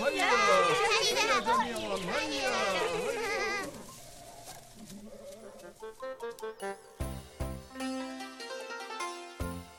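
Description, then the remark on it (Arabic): A sheep bleats loudly in a few wavering, quavering cries for several seconds, then gives way to a light melodic tune played by an instrument. “هيا يا حصان، هيا أيها الخروف.”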